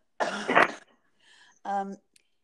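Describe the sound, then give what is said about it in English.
A single harsh cough bursts out, then after a short pause a brief voiced throat clearing follows, with no talking around it. “And I'm going to cough first.”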